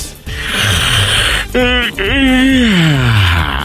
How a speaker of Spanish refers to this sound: Esos son bostezos de lesos.